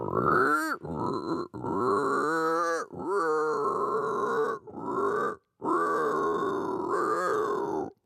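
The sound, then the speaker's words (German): A man who imitates animal voices imitates a pig with a series of loud, guttural grunts and snorts, delivered in bursts separated by brief pauses, with no other sounds. “Er kann zum Beispiel grunzen wie ein Schwein und vieles mehr.”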